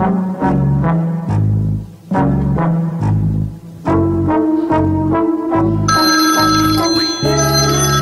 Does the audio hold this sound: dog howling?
no